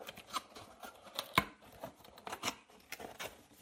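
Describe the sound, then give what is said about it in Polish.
A large cardboard box, its tape already removed, being opened, with a burst of crackling, scraping and sharp papery snaps as the flaps are pulled apart, one loud crack standing out midway. The box holds an artificial head. “Teraz muszę otworzyć tylko.”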